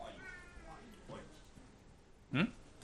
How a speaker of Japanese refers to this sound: 私が小学3年生ぐらいのときに 家の庭にいつも来るようになった野良猫がいたんですけど、まあ、なんかこんな感じの猫だったんですけど